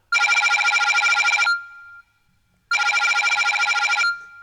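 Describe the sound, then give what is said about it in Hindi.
A mobile phone call rings loudly in two long trilling bursts separated by a short pause, with no one talking over it, as a man calls his sister-in-law. “तनिक हमके हमार मोबाइल दे दे, हमके अपने साली से बात करे का है।”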